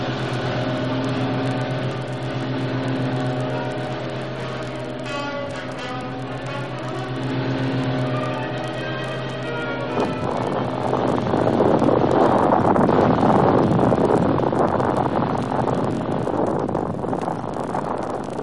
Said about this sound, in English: Quickly, they untie the boat, rev the motor, and race away.